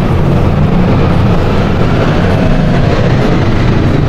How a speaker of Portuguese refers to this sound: Olha o avião passando.